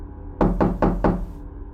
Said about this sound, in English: I get home after work and sit down to try to relax when there came a knock at my door.